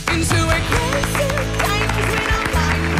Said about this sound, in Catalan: No cal que aplaudiu per això. Però home, sí, aplaudim perquè volem.